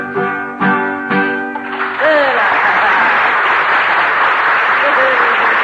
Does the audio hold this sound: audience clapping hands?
yes